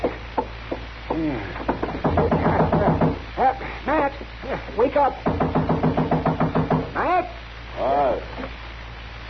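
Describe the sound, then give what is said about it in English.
Insistent knocking on a door comes in several rapid bursts, loud, with a voice calling out between the rounds of knocks. “Don't knock that door down.”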